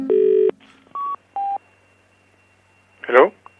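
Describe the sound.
Telephone dialing tones placing a call to a BT telephone box: a half-second steady electronic tone, then two short, clear keypad beeps spaced apart, followed after a pause by a brief burst of voice on the line.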